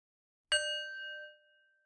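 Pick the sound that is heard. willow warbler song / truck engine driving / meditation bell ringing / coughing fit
meditation bell ringing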